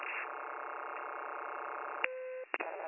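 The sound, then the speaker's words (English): A steady electronic pager alert tone for Fire 76 in Collin County drones over a band-limited radio dispatch channel, then shifts to a clean single pitch before a brief dropout and click near the end. No voices are heard. “You hit 76 tones. I dropped it for our pagers.”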